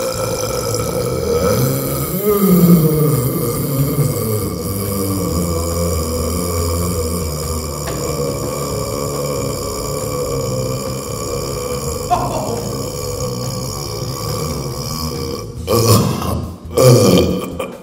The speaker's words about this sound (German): Es folgt der Weltrekord im Dauerrülpsen, der längste Rülpser der Welt.